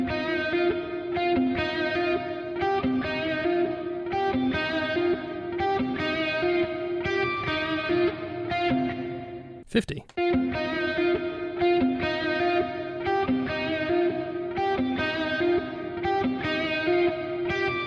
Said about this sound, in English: So this bit is definitely going to be a bunch of reverb. But let's turn up that pre-delay, see what happens. We've got 8 milliseconds.